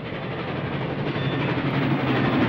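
A train carriage rumbles steadily along the rails, a dense, continuous low roar with a faint rattle that holds at a fairly loud level throughout, with no voices.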